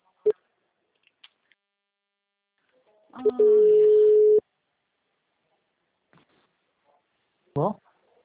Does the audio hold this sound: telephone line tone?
yes